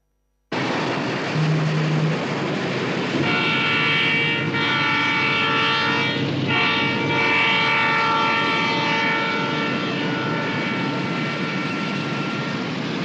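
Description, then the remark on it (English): A freight train roars past a truck parked by the rail tracks, a loud, steady rumble and clatter lasting the whole time, with sustained horn-like tones sounding over it partway through. No one speaks. “Parked by rail tracks, the Acme truck driver wakes up in his cab as a freight train roars past.”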